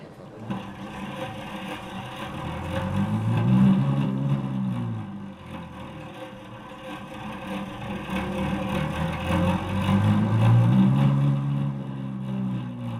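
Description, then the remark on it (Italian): An intonarumori howler (ululatore), one of fifteen Futurist noise instruments built with Ugo Piatti's help and shown at a press presentation, drones with a rough, motor-like buzz, its pitch sweeping up and back down in two slow swells, loud and continuous, with no voices. “Bene, cominciamo dunque con l'ululatore.”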